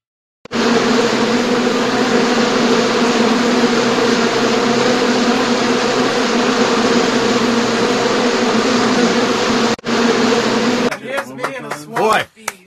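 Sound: bees buzzing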